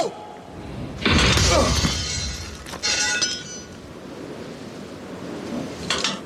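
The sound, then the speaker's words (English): A shifter (adjustable spanner) slips from a bag next to a torque wrench, falls past two workers under a lift and crashes loudly into a metal toolbox, followed by a second clattering impact and a faint clink near the end, with no talking. “a shifter that's in the bag next to the torque wrench, slips and falls, narrowly misses the two guys who are working underneath the lift, which they shouldn't be doing, but they got a little bit complacent, and smashes a toolbox.”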